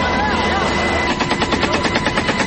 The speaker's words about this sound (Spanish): El sonido es de las ametralladoras M60 que accionan militares del ejército desde un helicóptero Black Hawk en Argelia, Cauca.